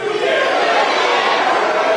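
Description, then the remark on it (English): An angry crowd in Flint yells and shouts back all at once, heckling Republican Governor Rick Snyder as he speaks; a dense, loud wall of overlapping voices that holds steady throughout with no single speaker standing out. “The crowd, you hear them there yelling back, you did, you did.”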